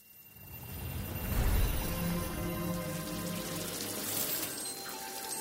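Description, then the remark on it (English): A shower runs hot water steadily, hissing and splattering in a continuous, fairly loud rush that swells slightly partway through, with no voices. “don't use all the hot water.”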